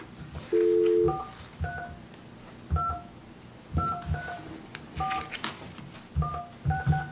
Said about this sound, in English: I dialed the number that, let's see here, let me try it again, maybe it's the phone.